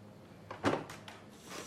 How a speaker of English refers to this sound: He unlocks his front door, which is opposite Stéphanie's front door, nervously glancing across the landing as he does so.